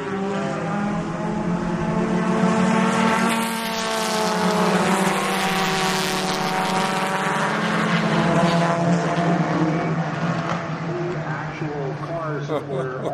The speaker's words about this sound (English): Only 12 cars. Do this one old school. The best we can as the field takes off on this opening lap.